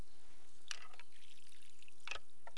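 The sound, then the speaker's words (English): Quiet splashy bursts of water, two short sloshes about a second apart like liquid being scooped and poured, with faint dribbles in between and no talking. Water is scooped out with a utensil to rinse items clean. “You can take this and scoop water out.”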